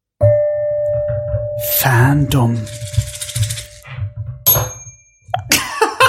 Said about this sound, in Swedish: David har tagit med sig en liten gonggong, en pinne med vadderad knopp.